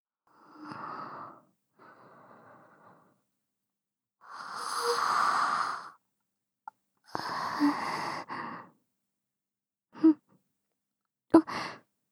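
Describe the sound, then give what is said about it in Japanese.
A drawn-out, breathy yawn rises and swells, followed by a few soft sighs and short breathy exhalations, with no talking alongside; someone yawning late at night while lying in bed beside another person. “もう遅い時間ですもの。あくびくらい出てしまいますわ。”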